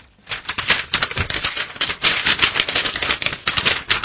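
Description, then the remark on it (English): Continuous crinkling and rustling as a sheet of paper with writing on it is handled and shuffled, with dense crackly bursts for several seconds and no one talking. “Uh-oh, I've got my piece of paper here with what you've written.”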